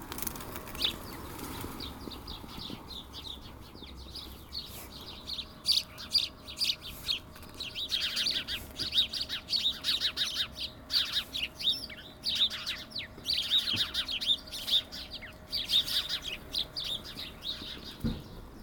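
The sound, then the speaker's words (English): Many birds chirp and squawk outdoors in dense, overlapping bursts, mostly from the north, busiest in the second half, with a faint steady hum and low rumble in the background and no voices. “Most of the squawking is to the north.”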